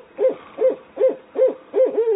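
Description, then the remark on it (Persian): A night bird calls out after dark in a steady series of five hooting notes, evenly spaced and fairly close, the last one stretching a little longer, with no voices present. “حالا دیگر هوا تاریک شده بود و پرنده شبخوان زود هنگام شروع به خواندن کرده بود.”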